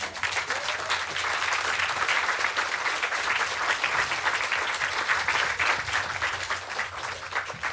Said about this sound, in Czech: nevím, za tohleto tleskat, nechám to na vás, jo.